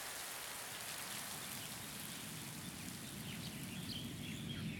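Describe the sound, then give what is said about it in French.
Soft, gentle rain, fine like a mister, falls on grass, pattering steadily over a broad hiss, even throughout, with faint bird calls chirping now and then. “Le marais était désert, mis à part les gardiens et les jardiniers, et je me suis installée sur l'herbe, sous la pluie toute douce, comme un brumisateur.”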